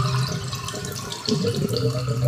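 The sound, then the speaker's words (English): Water gurgles and sloshes through a drain in a continuous, bubbling rush, with a steady low hum underneath and brief irregular splashes. No voices are heard. “Is that what you hear from your drains?”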